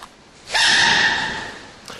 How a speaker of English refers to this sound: You can hear Mama Panda just chewing on some bamboo, happily, and then all of a sudden, baby panda sneezes.